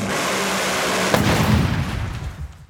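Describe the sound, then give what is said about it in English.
A Top Fuel dragster engine, running on nitromethane, gives a deafening roar with harsh crackling, then a sharp bang followed by a deep, pulsing low rumble that fades slightly toward the end. No voices are present. “Like a Top Fuel dragster doesn't even run gasoline and runs nitromethane.”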